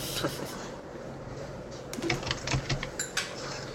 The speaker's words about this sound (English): I know you can hear me typing.